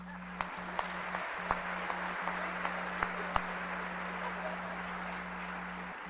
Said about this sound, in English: And I didn't give you an opportunity to applaud our platform guests.